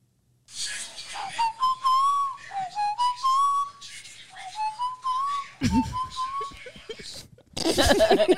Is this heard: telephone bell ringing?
no